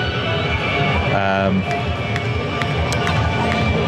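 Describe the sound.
A dense, steady roar of a loud crowd in Times Square during a music festival, with many overlapping voices blending into continuous babble and a few sharp clicks and knocks cutting through.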